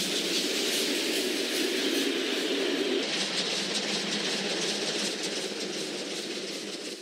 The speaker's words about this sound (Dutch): Drie lange dagen zeulde die trein ons mee. Soms verloren we vele uren op een zijspoor in de volgepropte wagons.